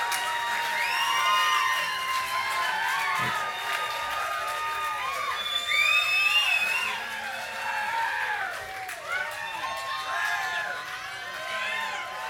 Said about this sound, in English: Thank you, friends. Thank you, neighbors. Thank you for your kind applause.